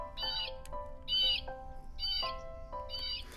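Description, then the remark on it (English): A blue jay screams its harsh warning call four times in a steady rhythm, each raspy cry loud, with faint background noise between the calls, at the edge of a forest by a park. “As we arrived at the edge of the forest, we were greeted by the warning sound of a screaming blue jay.”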